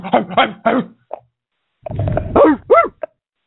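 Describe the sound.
A man imitates a dog, barking at people while he sideswipes their trucks, letting out a series of short, rough barks in two loud bursts separated by a brief pause.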